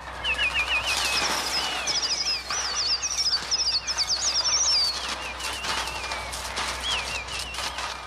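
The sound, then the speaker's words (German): Electronically synthesized bird sounds made with a Trautonium, a later development of the 1930 instrument, as used for Alfred Hitchcock's film The Birds: rapid, rippling chirps and screeches layered over a dense, loud fluttering like many wings flapping. The chirps fade after a few seconds while the flapping continues. “Sie waren keine Vögel, sie waren ein Trautonium.”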